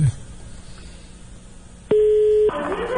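A telephone tone sounds after the receiver is lifted: one steady, loud electronic beep lasting about half a second over faint background hiss, then a burst of rustling line noise.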